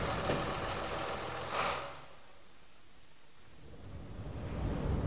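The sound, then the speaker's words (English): A bus engine rumbles steadily, briefly louder with a hissy burst early on, then settling to a lower drone before swelling again as the bus leaves. No one speaks. “Come on, let's get on the bus. It's just leaving.”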